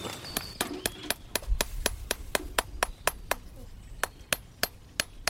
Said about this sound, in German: der versucht jetzt hier mit ganz viel Gefühl die Nägel in das Horn einzubringen, in den Huf. Muss man sich vorstellen, der Huf, der ist wie ein Fingernagel.